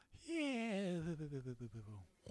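A single drawn-out, wobbly voiced snore sound, sliding downward in pitch and ending with a few rough flutters, loud, likely a person imitating snoring.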